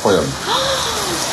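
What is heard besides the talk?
heavy rain pouring down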